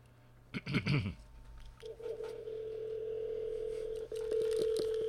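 A brief clatter like a phone handset being lifted, then a steady, continuous telephone dial tone that drones on, briefly interrupted before resuming slightly louder, with faint clicks from dialing, as a call is placed over the phone line.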